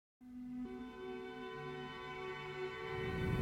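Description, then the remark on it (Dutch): Sirens, heard from a car driving through a village, sound outside as a steady, harmonic wail whose pitch steps between tones, growing gradually louder with a rush of rumbling noise building toward the end; the siren vehicles turn left. No one speaks. “Ik hoor nou trouwens ook sirenes, hoor je dat ook?”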